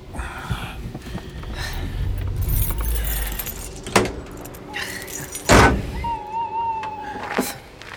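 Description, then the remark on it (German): A car engine rumbles low as the vehicle rolls up and parks directly behind another car, followed by a couple of sharp thumps and clicks and a jingle of keys. “Ja, parken Sie direkt hinter seinem Wagen.”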